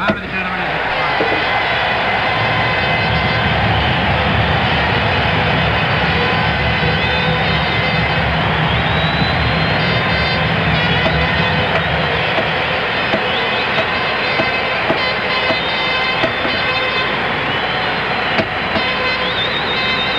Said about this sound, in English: Some of the states applauding now, delegations of Texas